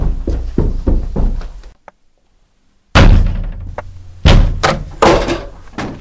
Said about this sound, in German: Oh mein Gott, wer hat jetzt meine Tür eingetreten?